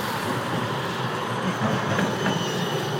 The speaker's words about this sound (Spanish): El tramvia.